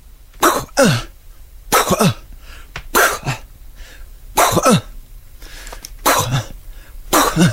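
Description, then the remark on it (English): A voice imitates a tennis rally: about six sharp, breathy mouth pops with grunting sweeps, alternating at a steady back-and-forth rhythm, loud, with no talking in between. “I'm going to do a tennis match.”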